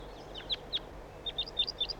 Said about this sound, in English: Start recording flight calls of the birds. Wild bird, wild.